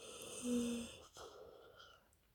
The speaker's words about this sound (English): I know I've been yawning a lot. I kind of drifted off a couple times. But I was trying to stay awake for when you got home.